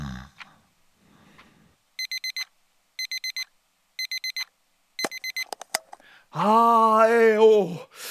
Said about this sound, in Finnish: Yöpöydällä oleva herätyskello alkaa soida 5 sekunnin kuluttua.